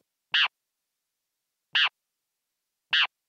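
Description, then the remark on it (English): Three short, harsh, bright calls of a great kiskadee, a research bird, made while it sleeps, evenly spaced about a second and a half apart, each a quick rasping burst standing alone against silence. “So I want to listen to what a bird dream sounds like. This one is from the bird you've been using for research, the great Kiskadee.”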